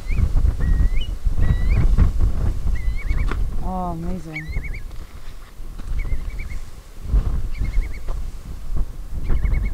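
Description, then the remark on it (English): A male bird calls agitatedly again and again near its nest, short sharp high chirps plus one harsh descending, whinnying call, over a low outdoor rumble while a person speaks quietly. “So you can hear he's a little bit agitated there, and it wouldn't be us disturbing him now because we're a good distance away from both of the nesting sites.”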